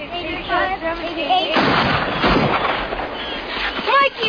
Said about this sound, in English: that sounded like gunshots. Not the big ones that you hear in war movies, but gunshots. Real ones.